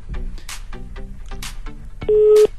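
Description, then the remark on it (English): Telephone keypad tones as a phone number is dialed: a run of short electronic beeps, then one longer, louder steady tone near the end, clear. “switched their phone off. Let me try a couple.”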